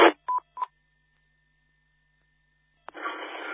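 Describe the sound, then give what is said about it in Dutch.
A Dolce Gusto coffee capsule machine beeps twice in quick, short electronic tones after a brief burst of hiss, followed by a long faint steady whine and then a rush of static-like noise. “Oh, wat staat hier nu weer aan te piepen? Zo, dat moet even uit.”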